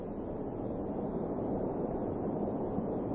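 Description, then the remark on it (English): A steady, continuous roar of rushing water from a waterfall where a river spills down the face of a bluff, deep and even, with no breaks or other sounds over it. “You hear that, sir? Sounds like a waterfall.”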